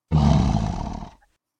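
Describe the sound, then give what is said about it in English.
A single growling roar from a human voice, imitating a big cat, about a second long and loud, with a rough low rumble that cuts off abruptly. “You don't want the roar.”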